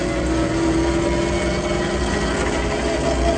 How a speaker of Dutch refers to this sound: Er zit een motor achter ons.